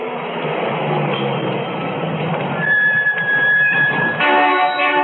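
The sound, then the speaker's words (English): A heavy truck's engine rumbles steadily as it pulls up at a service station on a desert highway in southwestern Nevada, then a high brake squeal rises as it slows, with a throaty idle and hiss at the end. No talking. “Hey, Walt, the truck's here.”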